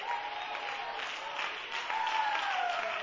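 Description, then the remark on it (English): An audience claps together in a dense, steady roar of many hands, swelling slightly louder near the end, with a faint held tone running beneath the applause. “And when was the last time you clapped your hands?”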